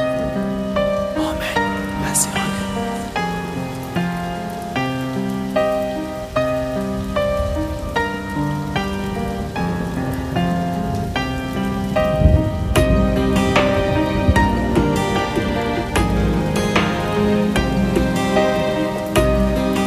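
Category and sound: nature, rain falling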